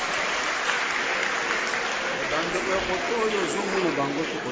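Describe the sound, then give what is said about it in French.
Sustained applause from an audience applauding itself after a first round of questions fills the room, a dense, steady patter of clapping hands with faint voices murmuring underneath. “Vous pouvez vous applaudir pour vous-même.”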